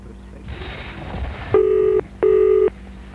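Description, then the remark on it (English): A telephone number being dialed: a soft whirring hiss, then two loud, steady electronic phone tones in quick succession, clear, with no voices. “All it takes is a simple phone call.”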